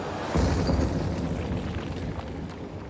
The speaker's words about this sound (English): The interior of the old church is blazing like a furnace. Now there is a huge crash as a section of the church roof collapses.